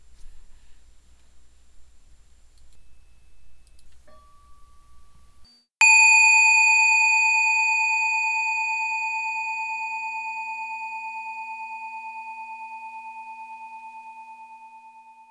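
A single meditation bell is struck once during a meditation sitting, after a quiet, faintly rumbling stretch, then rings on alone with a clear, sustained tone that slowly fades over nearly ten seconds.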